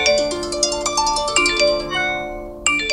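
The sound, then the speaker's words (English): A rapid, layered flurry of electronic chimes and beeps from phones, overlapping tones sounding in quick succession, fairly loud, with no one talking. “For young people, the constant buzzing and beeping can induce stress and anxiety.”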